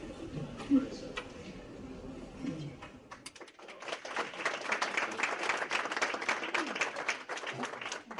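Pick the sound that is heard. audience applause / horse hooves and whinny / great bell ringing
audience applause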